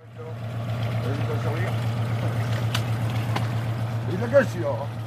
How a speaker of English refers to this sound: Several fishing boats were moored at the town's port, and the fishermen here said they were worried.